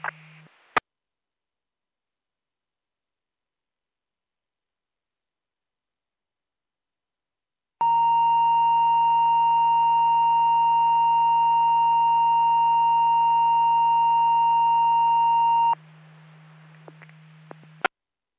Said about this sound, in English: LaSalle, Oval Bay, Tour Grove, and Tonic Fire Departments in Peru EMS. Please disregard the tone to set your pagers and the test outcome clear 2001.